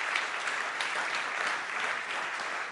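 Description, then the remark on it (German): A crowd at a sermon service applauds people who had walked a long way to get there, a dense, even wash of many hands clapping at once with no pauses, holding a moderate level throughout and with no voices standing out. “Auf jeden Fall mal einen großen Applaus lassen, die Helden.”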